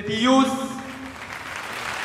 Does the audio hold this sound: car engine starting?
no